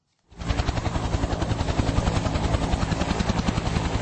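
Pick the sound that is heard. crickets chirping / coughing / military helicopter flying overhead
military helicopter flying overhead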